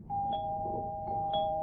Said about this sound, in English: Oh, I have my lock. The little button got stuck. A likely story. Ringing my doorbell once is quite enough. I'm not having you running up the electricity bill with extra ding-dongs.